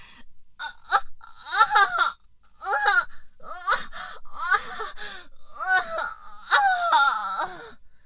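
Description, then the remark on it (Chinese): Loud, anguished wailing cries of pain come in a string of strained, rising and falling bursts, broken by sharp gasping breaths, with no other sounds around them. “你这个混蛋无耻，哎呀 我还没有喊完， 另一阵更高亢的痛哭声便喊了出来。”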